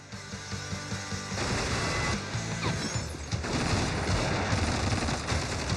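Rapid bursts of movie gunfire crackle over a loud, dense action soundtrack as a man is shot in the scene, with sharp shots and crashing impacts piling up and growing heavier partway through.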